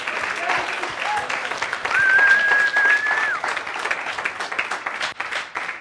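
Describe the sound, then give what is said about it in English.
An audience at a show hosted by Ted Rogers School of Management applauds steadily, dense clapping filling the whole stretch, with a brief high whistle-like tone rising above the noise partway through. “So big round of applause to them.”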